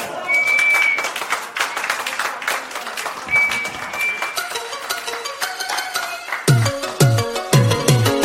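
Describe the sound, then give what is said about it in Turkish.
An audience claps warmly for a music ensemble, with a few sharp whistles cutting through, then the applause carries on under music that starts up and builds into a strong rhythmic beat. “Güzel alkışlarımız ve sevgiye devlet ediyen aziz ansamblımızı.”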